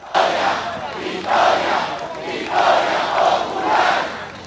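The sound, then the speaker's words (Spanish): A large crowd of Chavismo supporters in Venezuela chants the slogan "¡Victoria!" in unison, celebrating victory in the municipal elections, loud rhythmic shouts repeating about once a second, each swell of voices rising and falling in a steady cadence. “Hemos obtenido la gran victoria en las elecciones municipales y gritar la consigna ¡Victoria!”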